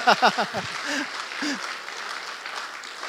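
An audience bursts into applause, a steady wash of clapping from many hands lasting a few seconds, with a few brief vocal whoops and cheers at the start.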